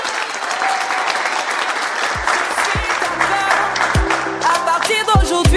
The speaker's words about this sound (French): Sous un tonnerre d'applaudissements.